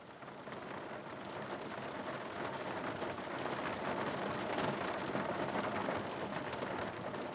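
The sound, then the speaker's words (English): Heavy rain pounds steadily on a car roof, heard from inside while sitting in the back of the car, a dense, continuous drumming of countless drops, loud and unbroken for the whole stretch with no voices. “We're now sat in the back of a car. The rain is still lashing down.”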